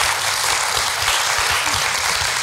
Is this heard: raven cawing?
no